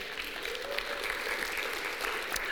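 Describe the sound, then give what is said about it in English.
An audience at a combined church service applauds the praise team, praise band and choir steadily, a dense wash of many hands clapping at even loudness throughout, with no voices rising above it. “Give them an applause.”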